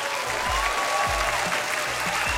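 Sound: applause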